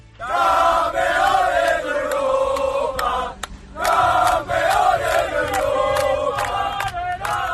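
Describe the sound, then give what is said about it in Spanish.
A loud crowd roars and cheers in celebration at the final whistle of Spain's win over France to become European champions, a dense wall of shouting voices that dips briefly around the middle before surging back up, sustained and jubilant throughout. “Con el pitido final se desataba la locura.”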